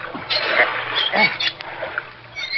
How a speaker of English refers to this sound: help me open the car door, Florio. Yeah, Danny. It's stuck. Oh, all that river water rusted the lock.